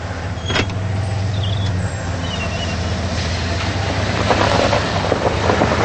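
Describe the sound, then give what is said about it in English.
A truck on a ranch drives off down a dirt road after backing into a corral: a steady, low engine rumble continues throughout, with rougher rattling and crunching building in the last couple of seconds. No one speaks. “Charlie puts the truck in gear, backs into a corral, then heads back down the dirt road.”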